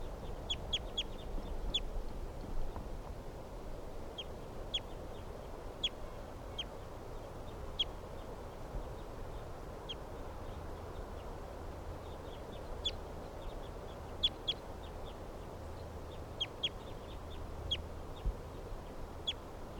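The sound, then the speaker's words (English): Several captive birds call repeatedly, short bright chirps and quacking notes scattered irregularly over a steady low rumble of background noise, with no one speaking. “Some other birds in the background here.”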